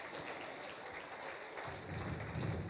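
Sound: audience clapping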